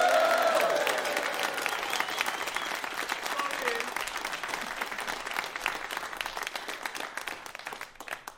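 A crowd bursts into loud, sustained applause with cheering and whoops at the start, the dense clapping carrying on steadily and easing off slightly toward the end.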